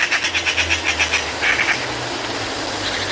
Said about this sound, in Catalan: Garça. Pica, pica. Au molt comuna a les zones de conreu de tot el curs del riu.